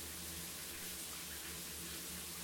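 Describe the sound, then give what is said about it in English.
A steady, even rush of shower water pours without a break over a person standing under it with hands against the wall, a broad hissing spray over a low, constant hum, with no voices. “You're standing in the shower with your hands against the wall, head down, and the water's just streaming over you.”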